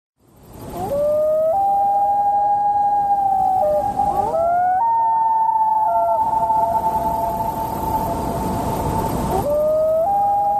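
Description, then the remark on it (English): Two common loons call to each other, trading long, eerie wailing calls, their sustained tones rising and overlapping against quiet open water, loud with no other sounds. “Okay, if you said a pair of loons calling to each other, you win the prize.”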